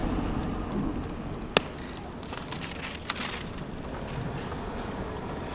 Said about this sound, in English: My car doesn't like this job. Not at all. It makes all kinds of noises.